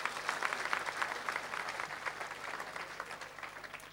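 Sustained applause from an audience, many hands clapping densely and steadily for several seconds, moderately loud and gradually thinning toward the end, with no talking over it.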